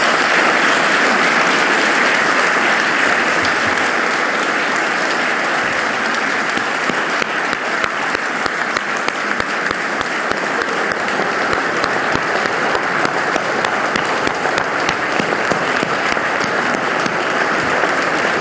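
A large audience applauds steadily and loudly for about eighteen seconds, a dense wash of clapping with sharper individual claps standing out toward the end.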